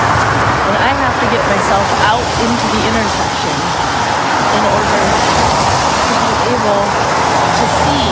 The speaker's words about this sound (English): It shows car after car zipping by her at 77th and Woodstock. We counted 13 cars in the video before somebody finally pumped their brakes.